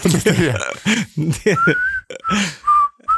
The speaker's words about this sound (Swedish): Vissla i sånger. Alltså jag tycker det är så bra när det börjar inte någon som visslar till, utan någon, alltså en låt som är visselig.